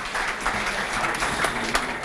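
crowd, big audience applause

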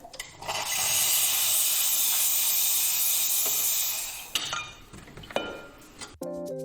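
machine, coffee machine hissing steam

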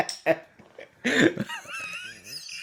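human body sound, cough

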